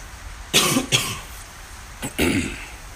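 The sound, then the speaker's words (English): A person with allergies coughs in two short pairs of harsh bursts separated by a brief pause, with some throat clearing mixed in and no talking. “I don't know about you, but allergies this week have gotten to me. So forgive me if I drink some water or cough a lot, but we'll get through this together.”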